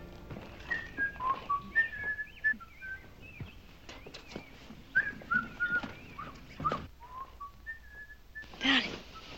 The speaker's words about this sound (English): What's the matter? There's somebody whistling up our pole. Oh, that's probably a bird.